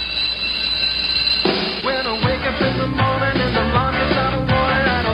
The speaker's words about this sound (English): This is the theme to Saved by the Bell.